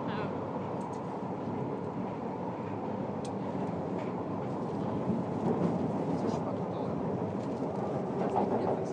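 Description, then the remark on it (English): A London Underground train running toward Knightsbridge station, a steady rumbling roar that holds constant throughout, with faint indistinct voices mixed into the noise. “The next station is Knightsbridge. Please mind the gap between the train and the platform.”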